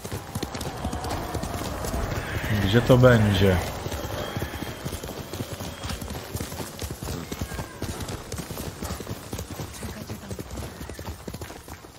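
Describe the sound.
Steady, rhythmic clip-clop of horse hooves runs through the whole stretch. A horse whinnies briefly early on, and a voice talks over the hoofbeats.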